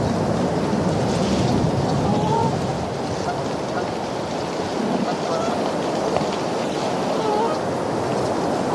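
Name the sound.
wind blowing outdoors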